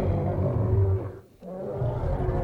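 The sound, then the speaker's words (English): A lighthouse's deep, loud foghorn blares in a long low droning blast, breaks off for a brief moment, then sounds again with the same heavy, rumbling tone. No one speaks. “Who meddles with our foghorn?”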